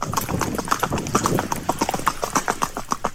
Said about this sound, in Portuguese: embora o som de fundo, esse barulho característico de 4 tempos andado, que é muito confortável ao cavaleiro, é a marcha do cavalo. Esse.